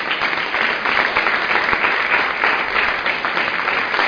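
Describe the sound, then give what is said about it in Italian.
Steady audience applause at the end of a presentation fills the whole stretch, a dense wash of many hands clapping at an even, sustained level with no voices standing out. “Intanto non credo di evitare l'applauso.”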